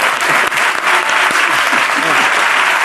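Steady audience applause, a dense wash of many hands clapping at a constant loud level for a few seconds, with no voices standing out above it.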